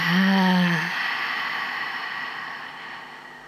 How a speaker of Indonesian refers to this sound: Ambil nafas panjang dari hidung. Buang nafas dari mulutnya.